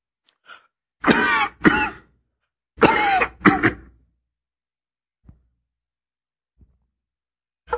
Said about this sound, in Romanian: Nu vă necăjiți dacă din când în când tușesc în timp ce predic. Asta e obicei luat din închisoare.